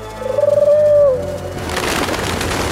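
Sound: pigeons cooing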